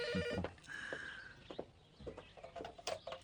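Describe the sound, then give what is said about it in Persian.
A phone ringtone plays, a short run of bright electronic beeps and a held tone followed by quick chirpy notes, with no one talking. “خب اینا گوشی رو بردار تا بهت بگم.”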